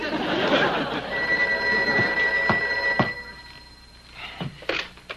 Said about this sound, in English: Answer that. It could be a phone call.